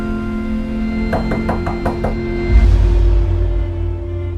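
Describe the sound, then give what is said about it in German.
A quick run of six sharp knocks on an apartment door in a new high-rise in present-day London at night, evenly spaced, over a steady low hum, followed by a deeper rumbling swell once the knocking stops. “Eines Nachts klopft sein Nachbar Harry, der ihm zuvor schon aufgefallen ist, an seine Tür.”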